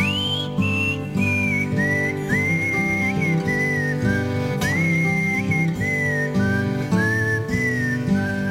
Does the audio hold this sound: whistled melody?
yes